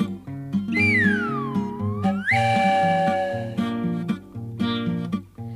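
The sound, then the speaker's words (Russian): A shrill whistle from a flying, puffing samovar boiling tea glides down in pitch and then sweeps back up over bouncy, rhythmic instrumental music, fairly loud throughout. “Он летит себе по небу и свистит, и чаек для Дуси с Васей кипятит.”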